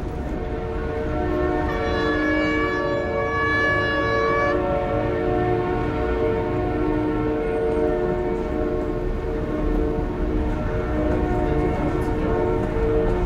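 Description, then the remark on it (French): A commuter train hums loudly with a steady, droning electric whine in an underground RER station at Place de la Nation; a brighter high-pitched tone rings over it for a couple of seconds early on. No voices. “Là, on descend les escaliers qui conduisent donc de la place de la Nation côté boulevard Voltaire, donc vers le RER.”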